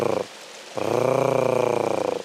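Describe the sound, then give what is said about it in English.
A voice imitates the harsh, rasping purr-like call of a female bird: a short burst, a brief pause, then a longer rolling trill with a buzzy, pulsing texture, fairly loud. “And the female makes a hard case sort of purring noise.”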